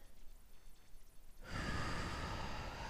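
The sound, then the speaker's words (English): A slow, deep breath, a soft airy inhale swelling into a fuller, louder rush of air on the out-breath, with no voices around it. “Breathing in and breathing out.”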